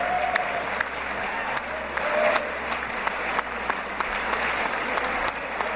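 The Israeli Parliament applauds Donald Trump steadily, a dense wash of clapping with scattered sharper claps standing out, holding at a fairly even, loud level for several seconds without anyone speaking.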